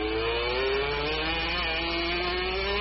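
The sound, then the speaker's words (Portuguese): A racing motorcycle engine roars steadily during a motorcycle race in Malaysia, its buzzing, high-revving whine climbing slowly in pitch over a few seconds, loud and unbroken with no voices. “Olha o ronco.”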